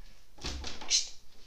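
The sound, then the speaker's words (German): A short burst of crinkling, rustling plastic foil as a tomcat paws and bats it about, a few quick scrunches at fairly low volume, with no voices. “Ja, der spielt hier mit irgendeiner Folie.”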